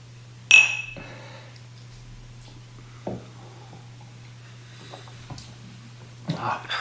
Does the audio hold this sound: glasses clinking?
yes